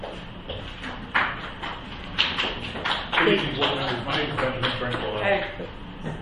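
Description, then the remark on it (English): A scattered round of applause from the audience at a board meeting, sharp claps rising and thickening before tapering, with a voice talking over the latter part. “If we could not, I'm glad you're supportive, but if we could not clap so we could hear when he goes.”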